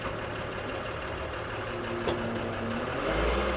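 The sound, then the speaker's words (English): A pickup truck's engine rumbles steadily as it backs up during a 15-point turn, with a brief sharp click midway and the low engine note swelling slightly at the end. “Us backing up 15-point turns.”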